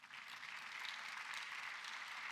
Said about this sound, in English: All right, if you're already clapping, then do it better for the Lord.